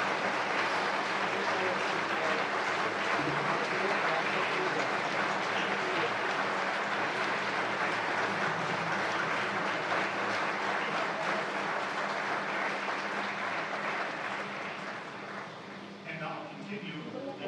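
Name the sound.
audience applause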